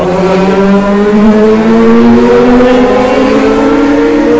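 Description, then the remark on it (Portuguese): Loud motorcycle engines roar past, their droning pitch climbing steadily as they accelerate for several seconds, with no voices over the noise. “Malditas motos!”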